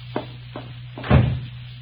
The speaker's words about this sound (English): Oh, excuse me for banging the door.